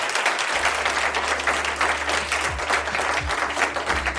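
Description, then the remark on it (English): Sustained applause from a sizable live audience at the Council on Foreign Relations for the debate participants, a dense, steady clatter of many hands clapping at fairly even loudness throughout, with a low hum underneath and no voices. “So please, a round of applause to them.”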